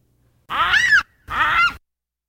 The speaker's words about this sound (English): Well, let's hear a baboon scream.